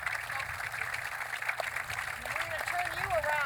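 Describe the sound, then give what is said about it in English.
A noisy crowd fills the background with a steady, dense wash of overlapping voices and chatter, with a few higher-pitched calls rising above the din toward the end. “Crowd's noisy.”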